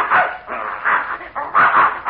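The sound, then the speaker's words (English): A dog, called the mad dog Adolf, barks and growls in a few loud, rough bursts with short gaps between them while a bear chases him, with no one talking, through a thin, old-sounding recording. “Well, I'll be darned, there's that mad dog Adolf.”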